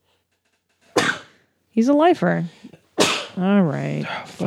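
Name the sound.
sneeze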